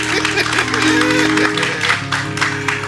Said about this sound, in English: Go ahead and put your hands together for the Lord. God at work. Oh, you can do God better than that. Don't clap for me. I made you mad this morning. Clap for God.